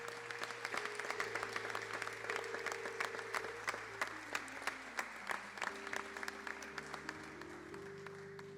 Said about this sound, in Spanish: Esperen un segundito, a ver, vamos a hacer esa entrega también por las dos distinciones, Joyería Santos y de Multiópticas Orotava. Muy bien, ahí queda el aplauso.